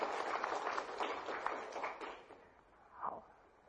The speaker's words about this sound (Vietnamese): Xin cho một tràng pháo tay cổ vũ.